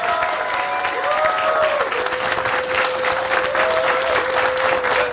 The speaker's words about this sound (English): So round of applause for everybody coming out today.